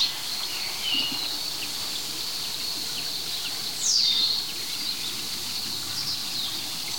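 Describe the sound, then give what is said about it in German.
A very small woodpecker gives a brief, high, downward-sliding call, with a fainter call earlier, rising over a steady background of insect buzz and forest ambience. “Das ist wiederum ein anderer Specht. Ein ganz kleiner Specht.”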